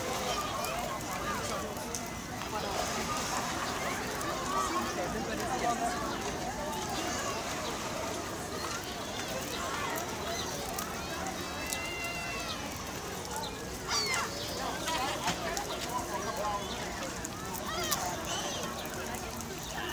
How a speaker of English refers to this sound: No. Those are not children screaming. Those are seagulls. Or some kind of gull. Sparrows, I think? No, those are gulls. Are those gulls? Yeah. Those are gulls.